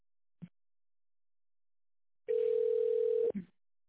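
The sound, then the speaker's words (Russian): A click, a pause, then a single steady telephone line tone held for about a second at a low-mid pitch over faint line hiss, ending in another click, heard after the automated greeting on a call to the company ИЦВИП. “Если вы знаете внутренний номер абонента, наберите его в тоновом режиме или дождитесь ответа секретаря.”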